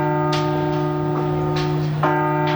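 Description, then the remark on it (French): A large Notre-Dame cathedral bell, hanging for a few moments from the arm of a crane and rung by Monseigneur Ribadeau Dumas to conclude its blessing, gives a deep, sustained resonant hum that fills the whole stretch, renewed by a few sharp strikes at irregular intervals, fairly loud, with no one talking. “Pour conclure sa bénédiction, Monseigneur Ribadeau Dumas fait sonner l'une des cloches accrochée quelques instants au bras d'une grue.”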